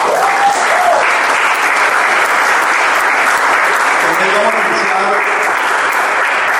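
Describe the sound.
A sustained round of audience applause, dense and fairly loud, with many hands clapping steadily throughout and a few faint voices or calls mixed into the crowd noise.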